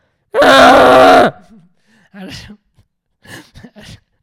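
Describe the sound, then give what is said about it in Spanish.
A person voices a loud, rough, grunting groan imitating a yak, held for about a second, followed by a few quieter breathy vocal noises and murmurs. “¿Cuán lejos ha estado tu imitación de un yak?”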